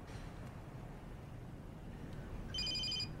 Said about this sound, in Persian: گوشی رو بردار لعنتی.